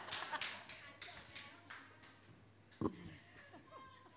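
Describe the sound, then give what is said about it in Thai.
A scattered round of applause from a group, sharp irregular claps spread across a few seconds, with faint chuckles and murmuring in the background. “ตบมือแล้วกลับไปอ่านด้วยนะคะ”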